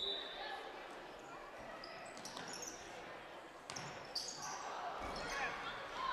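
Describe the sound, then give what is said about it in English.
A basketball bounces on a hardwood court with a few sharp thuds as the ball goes loose on the floor during a game between Revee and Bari, set against steady gym crowd noise, with murmured voices in the background. “Ball on the floor again.”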